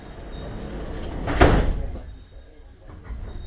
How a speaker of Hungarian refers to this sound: Kérjük, fejezzék be a beszállást. Szíveskedjenek vigyázni, az ajtók zárulnak.